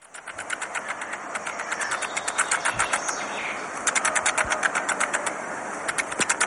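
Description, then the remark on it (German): Jumping spider vibration signals: a steady, rapid train of raspy clicks and buzzing pulses, machine-like, with brief surges where the pulses come faster and stronger. No one speaks. “Hören wir mal rein, weil die Spinnen sind bisher überhaupt noch nicht zu Wort gekommen, es wurde Zeit.”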